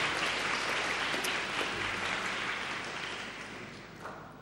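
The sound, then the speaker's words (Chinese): An audience applauds the members from fifty years ago who are present, steadily, a dense wash of many hands clapping that holds fairly level before slowly easing off toward the end, with no voices over it. “鼓掌。”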